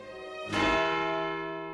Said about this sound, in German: Alles dieses ist so stille, dass man in mancher klaren Nachmittagsluft weithin den Hahn krähen hört oder den einzelnen Glockenschlag vernimmt, der von dem Turme der Kirche fällt.